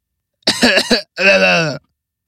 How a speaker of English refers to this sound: Did you hear me cough?